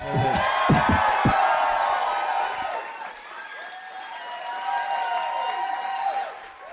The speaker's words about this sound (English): Somewhere through a pool of horse's blood, Usador can hear your applause and he appreciates it.